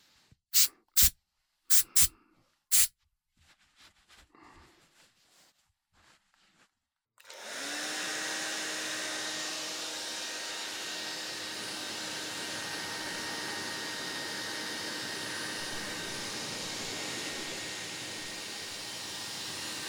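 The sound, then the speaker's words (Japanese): Four quick, sharp hisses of hair spray are followed by soft rustling, then a hair dryer switches on and blows in a loud, steady whir until the end as someone's hair is styled as the finishing step of a makeover. No one speaks. “ヘアスプレーとドライヤーで、スタイリングですね。”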